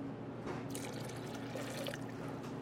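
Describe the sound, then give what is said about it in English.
Rice wine vinegar pours steadily from a bottle into a sauce, a thin trickling splash with small drips, fairly quiet over a low steady hum, with no one talking. “And then we're going to add some rice wine vinegar.”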